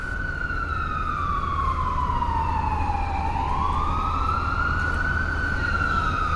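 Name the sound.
fire engine siren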